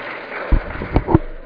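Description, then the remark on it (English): A few scattered hand claps from an audience at the beginning of a talk on integrated nitrogen and crop management, three sharp bursts standing out over a steady hiss of background noise, like applause trailing off rather than building. “Applause at the beginning is always a bad idea because you never know what's going to come.”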